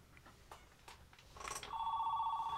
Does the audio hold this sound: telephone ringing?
yes